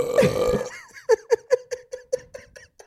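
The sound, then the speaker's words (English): A long, loud burp rumbles out, then breaks into a rapid series of about eight short, choppy belches that fade slightly as they go, with no talking. “Oh my god, I hope that somewhere deep in your subconscious you were actually wanting burping.”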